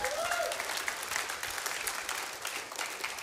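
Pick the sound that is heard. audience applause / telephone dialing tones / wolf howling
audience applause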